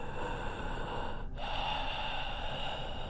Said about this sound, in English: She began to hear deep breathing from behind her.